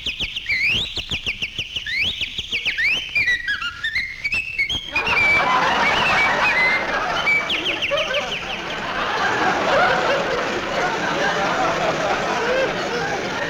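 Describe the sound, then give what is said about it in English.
Birds singing in the trees in springtime in Southern California: bright, warbling birdsong trills and swoops in quick whistled phrases for several seconds, then gives way to a dense, busy wash of chirping and rustling noise. “Flowers are blooming, the sun is sending down its glorious rays, while the birds are singing in the trees.”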